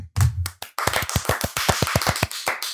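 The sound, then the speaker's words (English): Three people clap together to celebrate the winner of the Rockler Bentwood Challenge, in a quick, steady burst of about a dozen sharp, overlapping claps, preceded by a couple of low thumps. The claps are loud and bright, with no talking. “Let's clap it out, guys. All three of us.”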